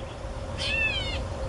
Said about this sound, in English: And so this is a gray catbird meowing like a cat. And I'll be honest, when I heard this the first time, I'm like, that's not that great of a meow.